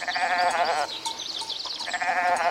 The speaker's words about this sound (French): La chèvre répond.